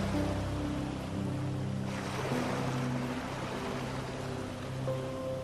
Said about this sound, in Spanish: La arena suave se extiende por toda una playa tropical, juntándose con las olas del mar que van y vienen en la orilla. Creando un suave ritmo, casi tan suave como tu respiración.